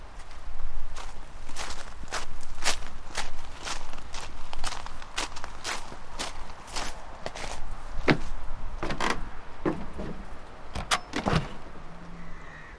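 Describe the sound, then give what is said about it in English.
A steady run of footsteps, roughly two per second, gives way to a few sharper knocks and clatters as a shed door is unlatched and pulled open. No one speaks. “I'm going to go and open the door on the shed.”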